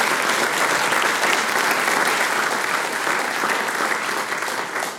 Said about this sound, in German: Ja, ein Applaus.